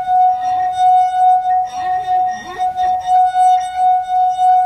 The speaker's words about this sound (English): just rest your finger on the rim and rub it around. Okay, so this is one of those well-known party tricks where you play the wine glass,